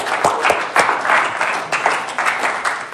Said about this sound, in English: So let's give him an extra clap today.